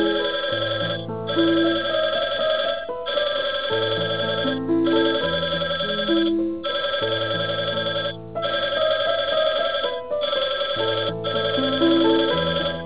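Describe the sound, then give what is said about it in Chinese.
A phone ringback tone plays down a narrow telephone line while a call is being transferred, a looping electronic melody in steady repeated phrases with brief gaps, moderately loud and with no voices. “欢迎你的来电，正在转接中，请等待。”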